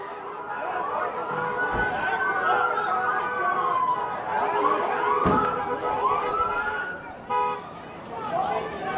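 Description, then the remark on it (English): Multiple emergency sirens from a state police military van, a police car and ambulances wail and sweep up and down in overlapping arcs, fairly loud and arriving on Water Street, over a busy street with crowd chatter and a couple of sharp bangs or toots. “After about 10 minutes, the first signs of help arrived on the scene. A state police military van and car, and ambulances on Water Street.”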